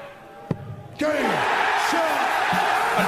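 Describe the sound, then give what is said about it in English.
A darts crowd erupts into loud, sustained cheering after a sharp impact as Fallon Sherrick nails the double to become the first woman to beat a man, the roar holding steady with scattered whoops and yells rising above it. “How about that crowd? Listen to that crowd go.”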